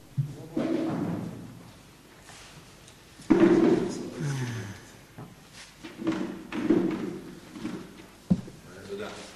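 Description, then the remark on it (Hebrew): A chair is brought over and set down for someone to sit on: a few dull wooden thumps and knocks spread across several seconds, with people talking around them. “אבל אתה יכול להביא כיסא ולשבת כאן. תביא לו כיסא.”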